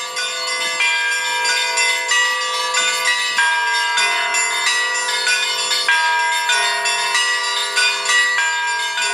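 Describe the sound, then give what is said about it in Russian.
Church bells ring continuously from the bell tower of the Pokrovsky church, played by contestants at a bell-ringing festival, overlapping strikes blending into a dense, shimmering wash of tones with a steady rhythm and no pauses, loud with no voices present. “Но над всем этим разносился, парил непрерывный колокольный звон.”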